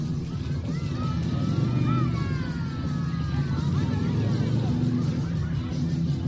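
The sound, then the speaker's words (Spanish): A loud, steady roar of several motorcycle engines, with revving whines sliding up and down in pitch as the bikes idle and throttle, as a group of motorcyclists from the Pingüinos motorcycle rally arrives at the Antonio García Quintana infant and primary school just after 11 in the morning. “Así se escuchaban, rugían los motores pasadas las 11 de la mañana. A esa hora un grupo de motoreros llegaba al Colegio Antonio García Quintana.”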